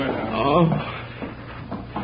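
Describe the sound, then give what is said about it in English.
A door is opened: a brief wooden creak followed by a few soft knocks and clunks, with a faint voice present underneath. “Oh, open the door, quickly.”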